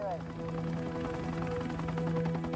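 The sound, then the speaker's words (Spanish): An FBI helicopter flies along Highway 50 near State Line, Nevada, in 1980, at about 150 metres, searching for a strobe-light signal. It drones steadily with a fast, rhythmic rotor chop and a sustained engine hum at a constant, fairly loud level, with a voice speaking faintly underneath. “Un helicóptero del FBI vuela por la autopista 50 buscando una señal.”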